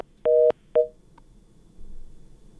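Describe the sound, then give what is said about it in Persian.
Two short, steady electronic telephone beeps sound as a listener's call to a Radio Azadi call-in program cuts off, clear, followed by a low background hum with no talking. “بله تماس شنونده ما هم قطع شد.”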